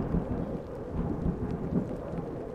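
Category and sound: nature, thunderstorm with rumbling thunder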